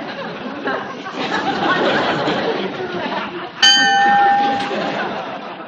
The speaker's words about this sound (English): There it is again. What's that? That bell, the one we heard in the office. Oh, sweetheart, your fever must be up again. You're hearing things.